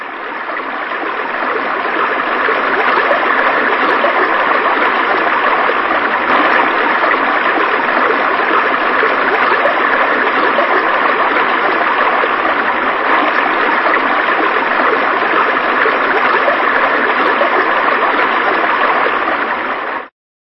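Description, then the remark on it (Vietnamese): A steady, continuous murmur of flowing stream water, fairly loud, with a constant rushing babble that holds evenly for the whole stretch and then cuts off. “nhưng tiếng tôi không bay tới chỗ mẹ, cũng không át được tiếng rì rầm của con suối.”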